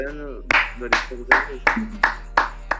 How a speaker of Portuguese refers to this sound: Palmas.